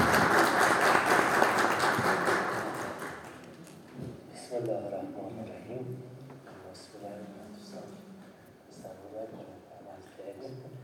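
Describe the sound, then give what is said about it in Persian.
An audience claps loudly in a dense, steady burst for about three seconds to welcome the coming speakers, the applause thinning out as a single voice begins speaking over the last scattered claps. “من خواهش می‌کنم یک بار جانانه تشویقشون بکنید تا به استقبال صحبت باشید.”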